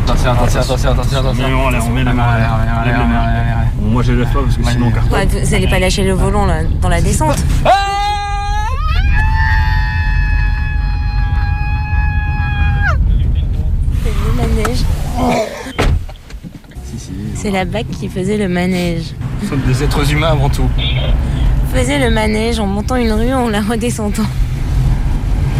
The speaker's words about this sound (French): Donc là, voilà, on va faire le manège, c'est-à-dire le manège, c'est descendre une rue très pentue en voiture. Et le manège, parce qu'en fait, c'est une petite rue qui fait le tour d'un square, hein, le square Bolivar, dans le 19e à Paris.